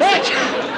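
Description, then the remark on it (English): A single loud sneeze: a brief voiced intake that bursts into a sharp, breathy blast of noise, then fades quickly. “Gesundheit.”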